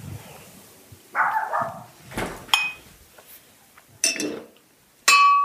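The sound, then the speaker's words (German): Several short barks from the neighbours' dogs ring out at irregular intervals, moderately loud, mixed with bright clinking sounds like glass knocking together. No one speaks. “Wenn die Nachbarhunde bellen”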